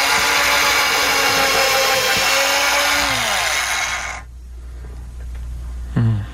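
power drill

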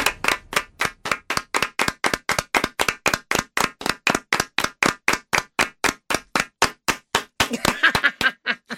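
round of applause

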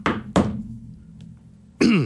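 knocking on wood

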